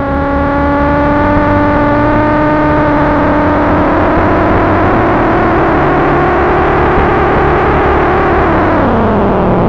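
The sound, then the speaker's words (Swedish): A doctor's yellow car driven fast: its engine roars at high speed, the steady loud whine holding pitch before dropping lower near the end as the car speeds past. “Doktorn kom farande i sin gula bil. Han körde fort, för han visste att det var allvar.”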